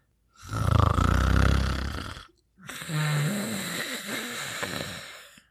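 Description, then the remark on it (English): Two long, loud snores in a row, a rumbling deep one followed by a rattling, wheezy one; a voice imitating an old man, a grandfather asleep in his bed, snoring heavily. “And old Granddad, he just kept snoring.”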